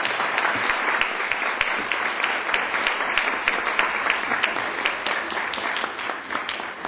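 A crowd claps steadily and loudly for about seven seconds in applause for actors, a dense, even patter of many hands with no voices breaking through.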